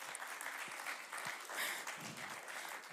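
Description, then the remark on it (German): An audience claps steadily throughout, a dense wash of many hands at moderate volume, with no break in the applause and no voices standing out; the applause is for the hard-working helpers. “Und hey, großer Applaus an die fleißigen Helfer.”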